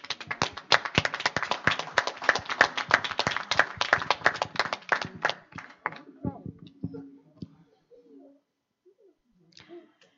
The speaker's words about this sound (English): Look how many mothers you have. Let's applaud them.